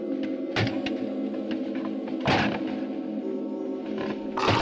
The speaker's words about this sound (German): Aber nicht die eines Menschen. Zumindest nicht die eines normalen Menschen. Neben den Schritten war ein gurgelndes Knurren zu hören, wie das eines wütenden Tieres.